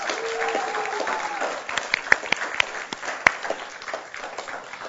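Audience applause, a dense steady patter of many hands clapping, with a few sharper individual claps standing out and a faint voice murmuring early on.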